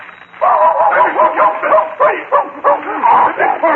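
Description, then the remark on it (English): A dog barks and yips continuously, the loud, excited bursts coming in quick succession with a few whiny, rising notes mixed in. “Dog, away from me. Call him off.”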